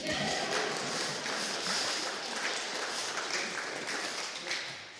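A crowd applauds steadily for about five seconds, a dense, even wash of many hands clapping at once that holds its loudness throughout and eases slightly at the very end.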